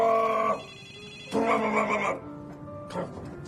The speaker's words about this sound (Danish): Det er telefonen, der ringer